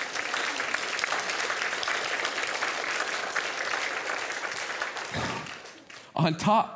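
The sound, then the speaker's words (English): A church audience bursts into steady applause after hearing that half the money for a building project is already raised, dense clapping that holds for several seconds before tapering off, followed by a brief burst of speech at the end. “Yeah, clap.”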